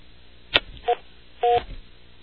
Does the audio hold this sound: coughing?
no